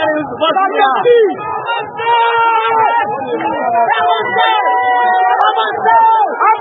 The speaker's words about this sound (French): Nous venons pour exprimer ce que nous ressentons par rapport au projet de loi de finances. Les organisateurs sont débordés et la foule décide de marcher.